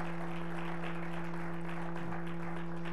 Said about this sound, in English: Let's just give the Lord another hand clap of praise. He's worthy.